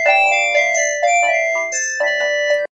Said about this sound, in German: Telefon!